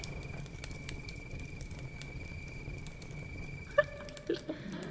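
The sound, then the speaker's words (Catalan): A crackling sound effect: quiet, steady crackling with scattered tiny pops over a low rumble and a faint constant hum, with a few sharper, louder clicks and a brief tone near the end. No one speaks. “Les tenebres crepitaven.”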